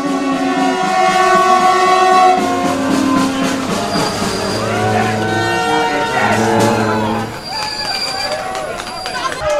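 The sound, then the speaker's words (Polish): A passenger train on the Warsaw–Żagań route pulls into a station, its loud rumble layered with sustained squealing tones from the wheels or brakes, while several people talk throughout. “Prawdopodobnie po raz pierwszy po kilkunastu latach wjeżdża pociąg relacji Warszawa-Żagań.”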